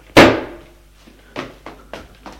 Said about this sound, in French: Il prend son élan et de tout son corps, il cogne la porte. Cogne la porte. Fois. La serrure est cédée.